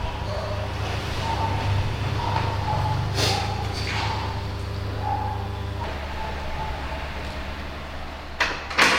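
A steady low rumble of a running vehicle fills the background, with a few sharp clicks and thumps, and near the end an apartment door in Vietnam is opened with a latch clack.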